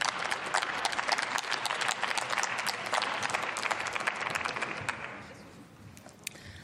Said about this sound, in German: Aufrufe zum Beifall sind explizit erlaubt, aber verlängern natürlich hier die Debattenzeit.